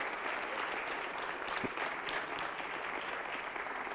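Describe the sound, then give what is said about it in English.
A crowd claps for the Lord steadily for the full four seconds, a dense, even wash of many hands with no voices over it and no break in the applause. “Can we all get together one time and just clap our hands for the Lord?”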